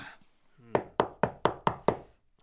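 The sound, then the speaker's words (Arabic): Six sharp knocks on a classroom door at a school in a quick, steady rhythm, each one crisp, with a short quiet pause before the knocking begins. “هل أفتح الباب يا أستاذ؟ لا شكرا يا فريد، أنا سوف أفتح الباب.”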